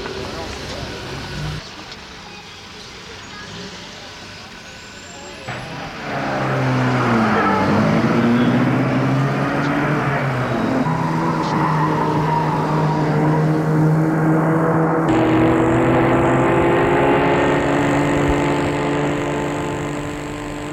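car driving at night

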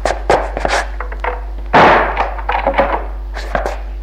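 door being shut

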